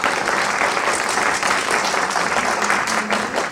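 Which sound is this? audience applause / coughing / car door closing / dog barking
audience applause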